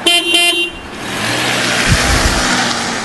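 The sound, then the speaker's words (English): A loud car horn beeps twice in quick succession, then gives way to the low rumble of an idling engine and steady road noise. “You like the beep at the end?”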